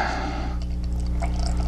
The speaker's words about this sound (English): Let me pour this crap out.